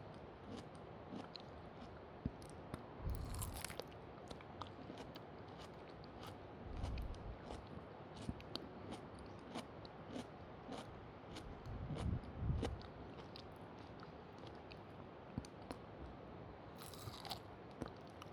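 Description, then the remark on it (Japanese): Wet, juicy biting and chewing of melon, with soft squishy crunches and slurpy mouth sounds repeating unevenly throughout, a few sharper bites standing out, no one speaking. “では次は、メロン。”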